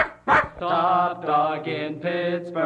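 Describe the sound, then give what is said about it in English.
A dog gives a quick sharp yip, then a run of four drawn-out, howling barks in steady succession, loud, with no one talking, as part of a WRCT Pittsburgh radio station ID. “Top Dog in Pittsburgh, WRCT.”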